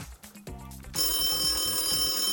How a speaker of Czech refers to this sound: Zvoni ti telefon! Alo, zvoni ti telefon! Zvoni telefon! Javi se!